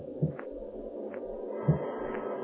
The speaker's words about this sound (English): And now there's nothing to do but wait in your dark house, listen to the rising storm, and the bump of the oak limb on the roof.